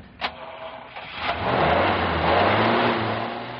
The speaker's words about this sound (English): Oh, listen to that motor. Is that power or isn't it? That's power, I guess.